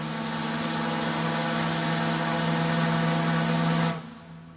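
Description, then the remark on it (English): A tugboat horn on the Mississippi River sounds one long, steady, deep blast with strong low harmonics and a hissy edge, holding loud and even for about four seconds before cutting off abruptly. “Here's the classic sound of the long blast of a horn on a tug on the Mississippi River.”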